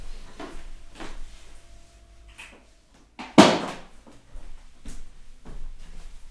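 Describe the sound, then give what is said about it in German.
A refrigerator is switched off with one sharp, loud clunk midway through, among soft handling and rustling noises; a faint low hum beforehand seems to drop away afterward. “Ja, vor allen Dingen muss ich jetzt wieder den Kühlschrank ausmachen, egal was du dazu sagst.”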